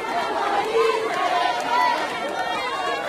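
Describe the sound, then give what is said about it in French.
A dense crowd murmur of many overlapping voices, steady and fairly loud throughout, with a few individual voices rising briefly above the general chatter, as the crowd thickens. “Aïe, aïe, aïe, la foule s'épaissit.”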